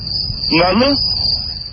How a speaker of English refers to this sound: Can you hear the crickets?